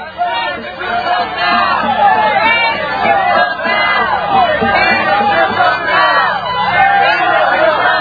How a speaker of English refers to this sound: Now they cheer as the tanks drive away.